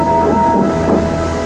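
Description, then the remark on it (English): Henry, the late mainline steam train, rumbles in to the junction at night, loud and steady, its wheels clacking along the rails in a brief, continuous burst with no voices. “At last, Henry arrived.”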